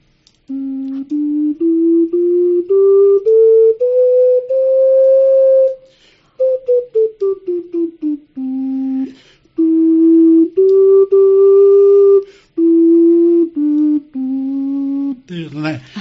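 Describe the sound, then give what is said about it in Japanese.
A low, breathy ceramic wind instrument about the size of a hand dryer, pitched an octave below the first one played, plays a slow melody of sustained notes, rising step by step, then falling, with soft gaps between phrases and no talking. “最初に吹いていただいたのよりももう1オクターブ低いのが今出してくださった、 それからです ね、ハンディドライヤーぐらいの大きさでしたね。”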